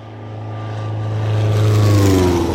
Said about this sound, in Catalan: És un dia plujós, amb una d'aquelles tempestes d'estiu. A pocs quilòmetres de la secta, i sobrevola una avioneta.